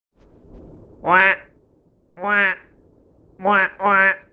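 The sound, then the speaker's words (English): A person imitates a duck with four loud, nasal quacks: two spaced single calls, then a quick double quack at the end, after a faint low murmur. “Very good impersonation of a duck.”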